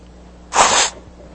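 A single loud, breathy nose blow lasting under half a second, a burst of harsh airy noise that rises abruptly and cuts off, with quiet before and after.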